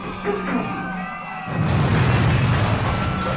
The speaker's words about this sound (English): The giant robot has crashed into the downtown area! I see flames, explosions, oh my, this is terrible. How can anything survive such carnage?